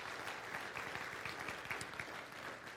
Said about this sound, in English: We do. Would you give this family a round of applause? And thank you, guys.